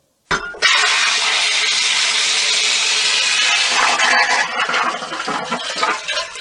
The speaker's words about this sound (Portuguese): Não pode dar descarga, menino. Espera juntar um pouco mais. Não dá descarga ainda não. Vamos economizar água. Na casa da Dona Bernardina, todos os sons são possíveis. Menos esse som aqui, ó.